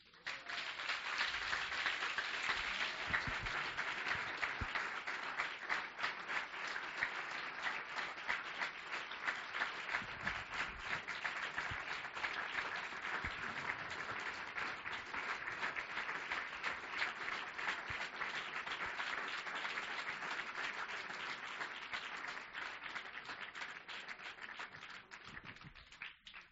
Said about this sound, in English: You know what? I think he deserves a hand clap.